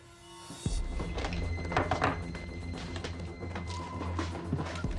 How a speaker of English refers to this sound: Jeremy opens Elena's top drawer. Finding nothing, he begins searching her room. He pulls up the mattress, looks in a box, and slides more drawers open.